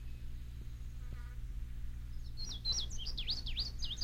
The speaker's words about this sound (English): Other birds, such as the bluebird, cannot be heard from a great distances. It sometimes can be difficult to determine the direction of a bluebird, especially if it is behind a tree.